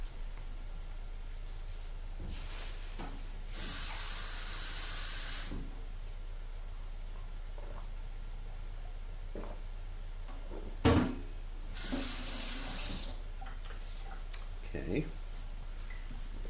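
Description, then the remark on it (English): Water runs from a tap in two short bursts as drinking water is fetched, a steady rushing hiss each lasting a couple of seconds, with soft clunks and handling noises around them. “Give me a second, I want to get some water to drink.”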